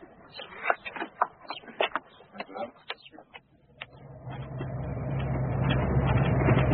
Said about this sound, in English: The old Land Rover isn't exactly our most comfortable car.